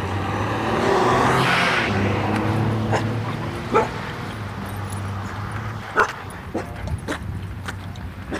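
dog barking and yipping

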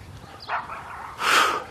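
dog barking

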